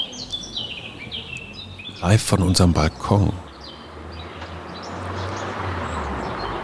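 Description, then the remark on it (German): A Eurasian blackcap, a small bird, sings loud, bright warbling phrases outdoors, briefly interrupted by a speaking voice, then keeps singing undisturbed as a car driving along the street passes with a low rumble beneath it. “und man hört sogar, wie ein Auto über die Straße fährt, aber ist der Mönchsgrasmücke, eine Mücke, die ein Vogel ist, völlig wurscht.”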